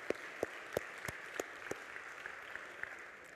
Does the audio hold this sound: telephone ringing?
no